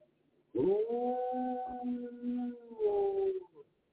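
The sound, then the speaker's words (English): A dog lets out one long, drawn-out howl, loud, rising quickly then holding a steady wavering pitch for about three seconds before trailing off. No one speaks. “Now, could it be possible that that dog actually felt the tremor?”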